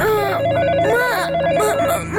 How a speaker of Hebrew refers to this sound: שלוש בלילה? מי מצלצל בשעה כל כך מאוחרת? הוא ניגש אל מכשיר הטלפון והרים בחשש את השפופרת.